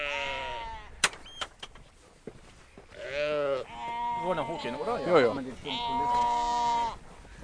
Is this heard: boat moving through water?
no